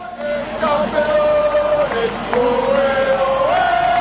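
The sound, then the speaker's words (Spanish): A large crowd of Spanish fans chants loudly in unison, cheering Spanish athletes María Pérez and Álvaro Martín at an Olympic athletics event, holding long sung notes that slide up and down in pitch over a steady roar of cheering voices. “Es el grito de España.”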